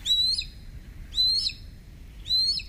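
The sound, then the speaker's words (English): A Harris's hawk gives three harsh, rasping calls, each a drawn-out, slightly rising screech about half a second long, repeated at a steady pace over a low background rumble. “However they might benefit, Harris's hawk's pack strategy sets them apart.”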